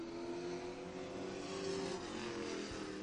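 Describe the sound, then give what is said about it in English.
Stock car number 88, driven by rookie Rachel Cole, drones steadily on a track, a loud sustained roar with a strong humming pitch that holds fairly even, swelling slightly near the end. No one speaks. “Yeah, and up next, now we got car number 88, the lone female wolf in the pack.”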